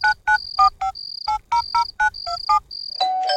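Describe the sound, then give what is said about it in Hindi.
An electronic doorbell chimes repeatedly in quick, bright bursts, alternating clipped multi-tone beeps with sustained high notes, loud and close, ending in a denser, rising chime. “Duffer phone नहीं, doorbell ring हो रहा है।”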